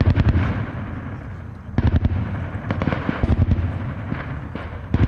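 Rapid, overlapping bursts of gunfire crackle throughout, with many sharp reports firing in quick irregular volleys and barely a pause, loud, as attackers ambush a United Nations convoy carrying oil and Serbian Army soldiers guarding the vehicle column return fire during the Ušće military exercise.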